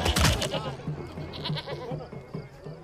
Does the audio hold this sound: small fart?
no